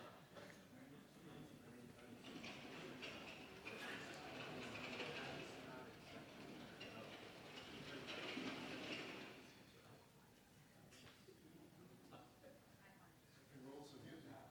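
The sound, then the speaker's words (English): A steady, rattling background rumble like a small train rolling past, swelling louder twice before easing off, with faint indistinct voices mixed underneath. “Almost sounds like a small train going through.”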